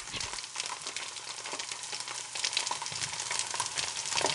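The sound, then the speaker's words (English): Otter Mayer's squeeze-tube bacon frying in a hot skillet: a steady, hissing sizzle peppered with sharp little pops and crackles, growing slightly louder partway through, with no voices. “You simply undo the cap and squeeze your bacon onto your already hot steaming skillet, and within a few minutes...”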